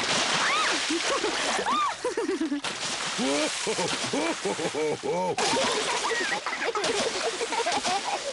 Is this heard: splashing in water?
yes